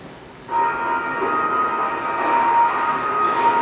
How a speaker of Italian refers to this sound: Questo rumore di sirena lei lo attribuisce, lo può attribuire alla sua camionetta? È un'ipotesi. Non so se poi fosse solo la mia camionetta ad avere in funzione la sirena, perché c'era un altro contingente della Polizia di Stato